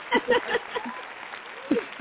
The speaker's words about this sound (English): That definitely deserved a clap.